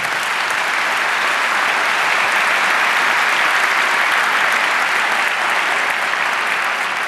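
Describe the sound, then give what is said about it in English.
A loud, steady round of audience applause for the speakers, dense clapping sustained evenly for several seconds with no voices standing out. “Warm round of applause for our speakers.”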